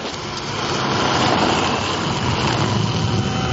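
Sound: car engine revving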